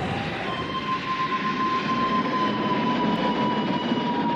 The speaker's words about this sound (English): Originally, it was going to be the Big Thunder railroad noise. There's a railroad noise that goes like, when it's like going around the bend. It's like, when I play it right now, you'll understand what I'm saying.